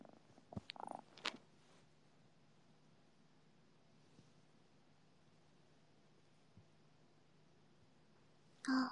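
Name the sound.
cat purring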